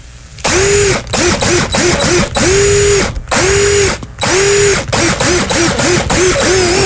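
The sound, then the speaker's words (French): A loud power drill whines out a classic tune for a radio call-in guessing contest, its motor pitch rising and falling through long held notes and quick short bursts separated by brief pauses, with no voices. “nous redriller le classique de ce matin pour gagner cette fameuse drill”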